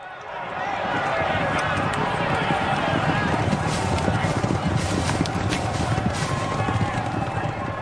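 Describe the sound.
A loud, continuous thunder of galloping hooves from a pack of racing horses in a recording of the 1995 Grand National, rapid drumming beats pounding steadily throughout, with a crowd's roar and indistinct voices mixed in the background.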